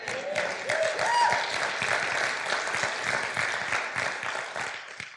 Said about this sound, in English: But you're clapping and had nothing to do with it.